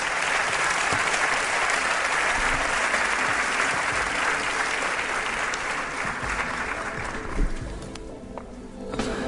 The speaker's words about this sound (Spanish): Un aplauso os pido para él, por favor.